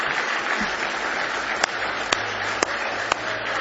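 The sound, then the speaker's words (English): An audience at an evening church service claps their hands in praise of the Lord in a dense, steady roar of applause, with a few sharper, louder claps punching through at an even pace, roughly twice a second, toward the end. “Give me one more hand clap of praise tonight if you love Him.”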